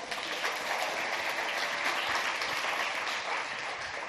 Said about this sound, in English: You're allowed to clap.